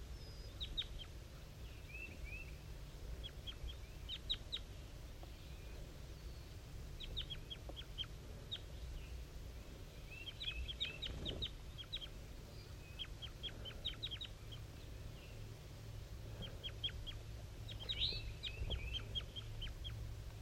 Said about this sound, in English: 5-3 is a little bit higher pitched and the wild bird is a little bit lower. Up in the top of the dead pine. Very weak, soft calls coming from the wild bird.